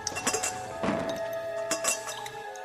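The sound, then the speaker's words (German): Water drips at an uneven pace, four or five sharp, clinking plinks ringing briefly over a steady, faint tonal hum, with no voices. “Das ist nur tropfendes Wasser.”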